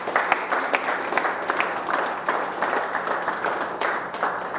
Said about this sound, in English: You guys give the Lord a hand clap of praise this morning. Amen.